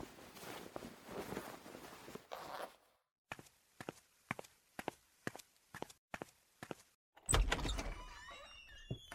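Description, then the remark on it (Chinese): Rustling gives way to a steady run of footsteps crossing a room, then a sharp latch clack and squeaky creak as a door is pulled open for an arriving father-in-law. No one speaks. “赶快把衣服穿好，我要去给你岳父开门了。”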